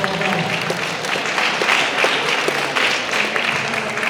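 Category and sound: crowd, audience round of applause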